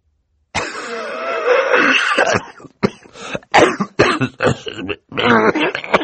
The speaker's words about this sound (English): For several seconds he coughed into a handkerchief while everyone waited for him to speak.